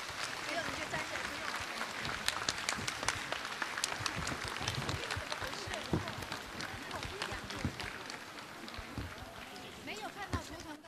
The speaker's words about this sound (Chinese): 下面让我们用最热烈的掌声恭请尊敬的卢军宏台长为我们慈悲看图腾。